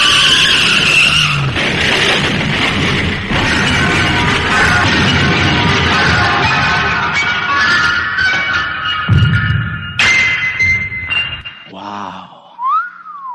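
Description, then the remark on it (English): A runaway garbage truck's tires skid with a long, loud, sustained screech over a rumbling engine for about ten seconds, then cut off, followed by a brief wavering, whistle-like tone. “She grabbed my laundry and ran into the street, directly into the path of a runaway garbage truck.”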